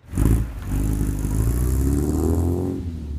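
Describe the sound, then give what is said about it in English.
A vintage engine, a working 1956 Ford tractor or 1967 Volvo sports car kept in running order by a Maine maker, revs up loud, its low rumble climbing steadily in pitch with a rattling, clattery edge throughout, no voices present. “Like a working 1956 Ford tractor or a 1967 Volvo sports car”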